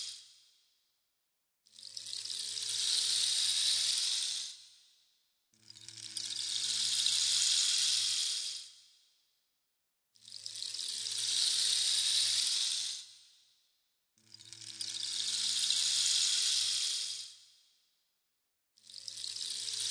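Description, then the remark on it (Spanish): Rhythmic washes of sea waves, each surging in as a broad hissing roar for a few seconds, then falling away into brief quiet, repeating about five times with no talking. “Lo que tienes que hacer ahora en estos momentos es oír el mar, el ruido de las olas del mar.”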